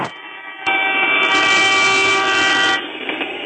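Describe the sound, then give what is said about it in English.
The 10:15 train rumbles loudly past on the tracks, with a steady roar, a sustained tonal horn-like blare and a hissing high-frequency wash in the middle, without voices. “Right on time, the 10:15. Oh, no, not the train track.”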